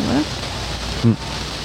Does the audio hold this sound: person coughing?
no